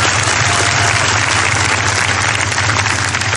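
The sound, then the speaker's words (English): A loud, steady round of applause from a large crowd for the graduates, dense clapping filling the whole clip without a break and no voices standing out. “We have to just give them one big round of applause before I start.”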